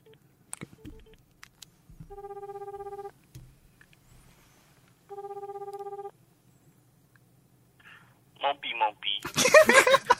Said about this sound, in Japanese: ちょっとね電話をかけたいと思います。取るかな。 取ってほしいな。